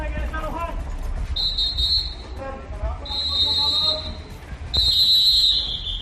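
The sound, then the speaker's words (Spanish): Three long, shrill whistle blasts, blown by Civil Protection, Local Police and Guardia Civil to warn residents during a pre-dawn evacuation of a neighbourhood, sound one after another, each lasting about a second, over a busy background of voices and outdoor commotion. “Protección Civil, Policía Local y Guardia Civil hacen sonar los silbatos para avisar a los vecinos.”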